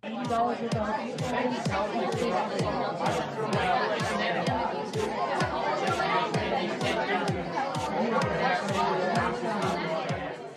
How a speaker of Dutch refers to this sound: Het eerste wat gelijk in me opkomt, dat ik degene die tegenover me zit met een biertje vraag, zullen we naar een ander café gaan? Ja, het is nog niet eens zozeer het geroezemoes, maar die beat er doorheen, die vind ik heel irritant.